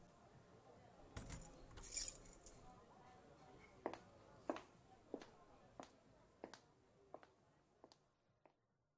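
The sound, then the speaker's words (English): Keys jangle and clink in a quick burst as they are handed over, followed by a series of sharp metallic taps and small rattles spaced across several seconds, moderately loud. “Give me your keys. I'm driving.”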